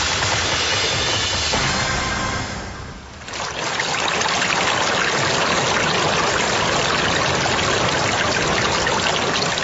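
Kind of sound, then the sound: nature, flowing river water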